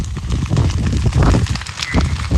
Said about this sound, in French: il y a du vent ici, donc ça attise les flammes, ça fait des petits tisons, donc ça fait des sacs de flammes, donc c'est en train de partir. Je ne sais pas si derrière vous entendez le crépitement des flammes.